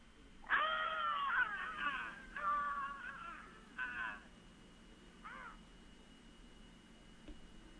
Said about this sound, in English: I'm just going to say go, and then they're going to scream. All right, okay. Lay it on us. All right, you can scream now.